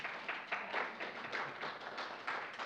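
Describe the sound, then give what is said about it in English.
An audience claps steadily after a reenactment of the Easter story, a dense crackling of many hands with slight swells in loudness and no voices over it. “Thank you for clapping, because you guys are picturing me with my crayons and, right?”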